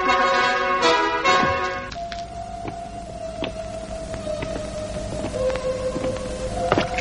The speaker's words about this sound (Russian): Вода. Не бойся.